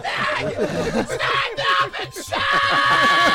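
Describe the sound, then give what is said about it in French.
A man screams loudly and continuously, his raw, straining voice rising and breaking over a few seconds, overpowering, with some background noise underneath. “Non, non, mais quand je crie, il faut crier loin.”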